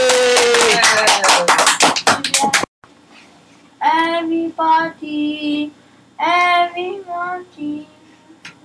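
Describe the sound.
A burst of audience applause for a performer about to sing a song, dense and fairly loud clapping for a couple of seconds, cuts off abruptly. Then a person's voice follows in short, tonal phrases.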